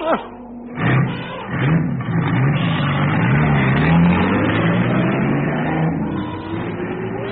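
A truck engine starts with a burst, then revs hard in a sustained roar, the pitch climbing steadily as the vehicle pulls away in Africa. A voice is faintly audible beneath the engine.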